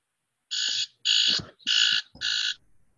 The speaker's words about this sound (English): That sounded like a cricket or something. It's my timer. I'm working on baking.